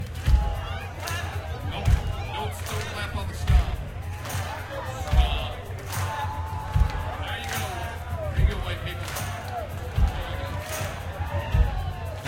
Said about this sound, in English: If you guys could stomp along. Stomp. Come on, put some balls into it. Ladies, put your boyfriend's balls into it. Then a little clap. Stomp. Then a clap.